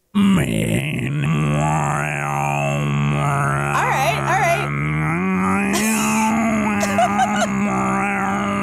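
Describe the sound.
A steady, buzzing low vocal drone in the style of Tuvan throat singing, didgeridoo-like, with overtones sliding up and down above it in arcs, held continuously for several seconds without words.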